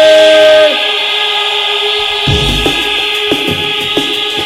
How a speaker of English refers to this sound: Now all the whistles, put them in your mouth. Horns massive, get ready. On the count of three, make some noise. One, two, three.